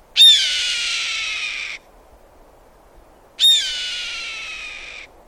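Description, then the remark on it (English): Two long, raspy descending screams of a red-tailed hawk calling from high overhead on the Samish Flats in late winter, each lasting about a second and a half, separated by a short pause, clear and fairly loud against a quiet background. “You could see up to 50 red-tailed hawks in one day-long visit. And you're bound to hear this sound wafting down from on high.”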